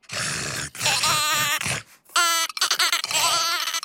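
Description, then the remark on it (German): A sheep bleats several times in quick succession, loud, with a wavering, quavering tone and no voices around it. “Das Schaf will auch nicht mitspielen.”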